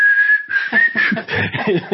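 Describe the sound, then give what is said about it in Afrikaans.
Someone whistles a slow hymn tune in a clear, steady tone, holding long notes while a voice talks over the second half. “My pa is hy op sy gelukkigste en met sy draaibank ons goed staan en werk en fluit het.”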